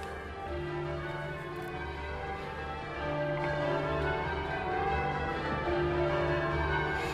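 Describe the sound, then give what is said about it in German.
Twelve church bells rung by bellringers in change ringing, each bell swinging with its opening upward and following a method like a knitting pattern: a steady, dense cascade of overlapping tones, a continuous pealing pattern with no voices. “Es sind ja 12 Glocken. Und sie sagen dem Methode. Das ist wie ein Strickmuster. Immer 12 Töne.”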